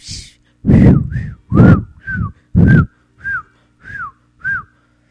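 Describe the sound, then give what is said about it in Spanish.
A person whistles a series of short chirping calls imitating birds, about eight quick rising-falling notes with brief gaps, fairly loud, mixed with breathy bursts and no talking. “Y entonces se van y así las aves, los pajaritos, las olas del mar.”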